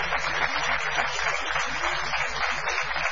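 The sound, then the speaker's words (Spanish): Audience applause fills the whole stretch, a dense, steady crackle of many hands clapping at an even loudness with no voices breaking through, in the Picasso hall at Paseo La Plaza as people arrive. “Muy amables, estamos aquí en el Paseo La Plaza, en la sala que se llama Picasso, con gente que va llegando, y con mi querido amigo Barton, a quien vamos a aplaudir.”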